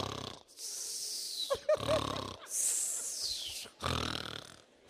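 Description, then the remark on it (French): A man's voice imitates a heavy snorer: about five loud, rasping snorts and wheezy breaths in quick succession, with no words spoken. “Il y a les petits ronfleurs, mais il y a aussi les gros ronfleurs.”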